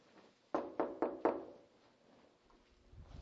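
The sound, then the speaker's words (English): Four firm knocks by a man on the door of his own house in a quick, steady rhythm, distinct, followed by quiet with no one speaking. “He knocked at his own house.”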